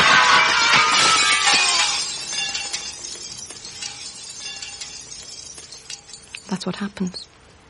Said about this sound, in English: When a piece of glass falls on your arms from the first story